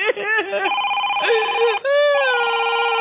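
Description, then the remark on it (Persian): A mobile phone rings with a loud electronic ringtone, a few gliding notes settling into sustained steady tones that shift pitch twice over about three seconds. “خب جواب بده اون موبایلو.”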